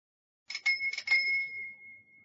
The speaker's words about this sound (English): I'm sorry, I can't hear your bell. It's too quiet.